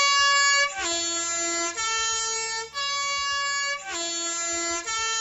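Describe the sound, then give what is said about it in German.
A Swiss postbus three-tone horn blares its melody loudly, stepping through distinct pitches in a repeating sequence, with low engine rumble underneath and no talking. “Genau, das Postauto.”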